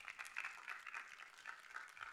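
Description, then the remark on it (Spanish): Steady applause from a crowd, given to the Lord, a dense, even patter of many hands clapping at once that holds at a fairly soft level for the whole stretch, with no voices heard. “Le doy un fuerte aplauso, Señor, claro que sí.”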